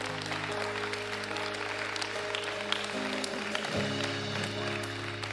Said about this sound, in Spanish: ¿Puede tomar un aplauso al Señor?